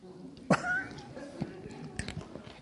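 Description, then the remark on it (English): A brief throat-and-mouth noise, a quick cough-like clearing as a cough drop lodged in the cheek is worked loose, followed by a few faint wet clicks. “My cough drop is lodged in my cheek.”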